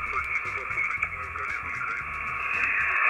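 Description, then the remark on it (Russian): Harsh, steady radio interference from a receiver app on a smartphone, tuned across frequencies like a receiver knob, hisses and buzzes without a break for three seconds, loud, with garbled, voice-like warbles pulsing faintly beneath the noise. “Помехи ужасные сейчас идут в наш радиоэфир.”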